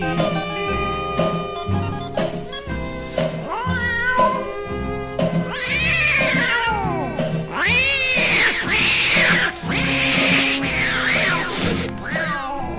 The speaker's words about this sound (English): Now on that very same night, Now that old tomcat started a fight, and this is the way it all did sound to me.